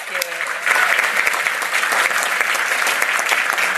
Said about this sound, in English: So let's give her a big round of applause for this, right?